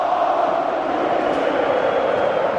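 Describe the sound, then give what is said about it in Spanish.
A huge stadium crowd of Turkish fans in Leipzig chants and roars the name of Arda Güler together during Turkey's match against Austria, in the rain, a steady, unbroken wall of voices, loud and sustained throughout with no pauses or single voice standing out. “¿Estáis escuchando cómo grita el pueblo turco Arda Güler?”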